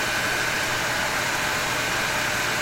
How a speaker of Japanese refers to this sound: ほら、スイッチ入れます。ポチッとな。 おー、熱い空気がすごい勢いで吹き始めてきました。うわー、あったかい。